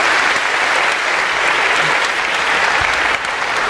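An audience breaks into steady, dense applause, many hands clapping together at close range and holding a fairly even loudness for a few seconds.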